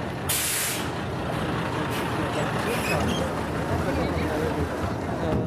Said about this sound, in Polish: Wysiedli Państwo z autobusu. Autobus MPK, bardzo stary. Co to za model? Jelczmo, ale który to nie wiem, ale Jelczmo. Odbyli Państwo wycieczkę po Rzeszowie tym wyjątkowym autobusem.